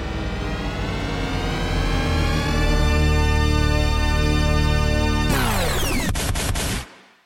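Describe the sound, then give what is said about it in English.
The THX deep note, a sampled glissando and the THX trademark sound, an officially cleared uncompressed file opening an album: a loud, dense swarm of sustained tones swells and glides into a huge, steady chord, held for several seconds before a sudden shift and a quick fade to silence. “It's a sampled glissando that is popularly known as the deep note.”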